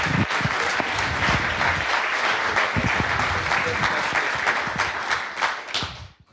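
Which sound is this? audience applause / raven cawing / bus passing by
audience applause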